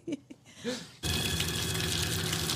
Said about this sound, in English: He's taking a cold shower. What are you guys upset about? People do this for, like, fun now.